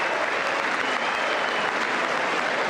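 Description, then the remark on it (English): A steady round of applause from a large crowd at the State of the Union as the President of the United States is presented, dense and sustained with many hands clapping at once, fairly loud and even throughout with no voices standing out. “I thought we already did that round of clapping.”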